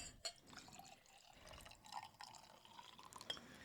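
Liquid is poured into a glass close by, a quiet trickle with small splashes and a few sharp clinks of glass, with no one talking.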